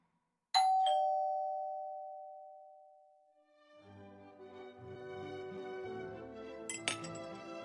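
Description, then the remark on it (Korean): A doorbell at an old-fashioned mansion on the west end of Taradero sounds with a single bright chime that rings out and slowly fades over a few seconds, then a busier, layered tinkling melody takes over. “이미 거짓말인 줄 아는 거짓말로 스스로를 속이며 초인종을 향해 떨리는 손을 뻗었다.”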